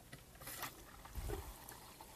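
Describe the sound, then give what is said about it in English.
A bathroom sink faucet runs in a soft, steady hiss, with a brief surge partway through as the water is turned on and off again, fairly faint and heard alone without speech. “See that water on and off.”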